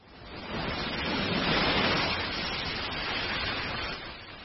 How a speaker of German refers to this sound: Doch dann, 3 Tage ist das Boot nun schon auf dem Meer, passiert etwas Unvorhergesehenes. Wolken ziehen auf, der Wind wird heftiger, die Wellen höher.